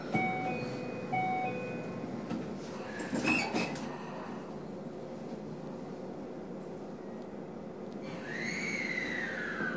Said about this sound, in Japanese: 西大島、西大島。1番線、ドアが閉まります。